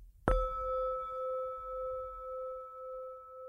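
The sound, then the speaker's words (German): A single gong is struck once to begin an exercise in an audio relaxation training lesson, giving a sharp attack followed by a long, steady ringing tone with bright overtones that slowly fades. No one speaks. “Wir beginnen mit der Übung nach dem Gongschlag.”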